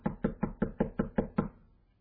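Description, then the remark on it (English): A quick, steady series of about eight solid knocks on a wooden door, evenly spaced, with no voices, fading into a brief quiet tail. “The uncleaner at your door. Knock, knock, knock.”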